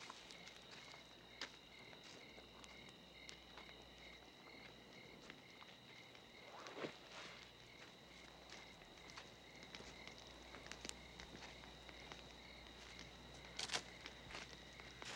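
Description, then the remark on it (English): Uneven, shuffling footsteps scuff across dry ground as someone stumbles toward a campfire at night in the desert, with a couple of louder stumbling scrapes, set against a steady high chirring of crickets in a quiet night ambience. “That night in the desert, the Indian warrior awakens when he hears footsteps.”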